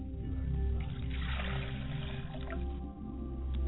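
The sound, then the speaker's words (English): Water being poured out of a glass on behalf of a father's spirit, a steady splashing stream that swells for a couple of seconds and then thins to a trickle, over a low background hum. “As I pour a glass of water on behalf of my Father's Spirit, I say Ashe.”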